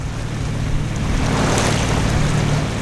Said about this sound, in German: Inzwischen haben wir die Schlei verlassen. Die Wellen hier auf der Ostsee sind höher, lassen den Kutter von links nach rechts schaukeln. Wer steht, muss sich festhalten.